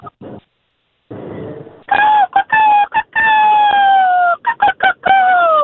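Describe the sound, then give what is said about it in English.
A person imitates a seagull call: a few short squawks, then a long, loud, downward-sliding cry followed by several quick choppy bursts, with no other talking. “Let's hear your best seagull call.”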